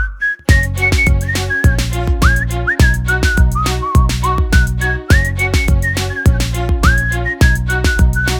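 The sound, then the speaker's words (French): A bright whistled melody with sliding notes plays over a steady, upbeat band backing with punchy drums and bass, continuing for the whole stretch without any voices. “Quand tu l'as devant toi, siffle cet air bien vite.”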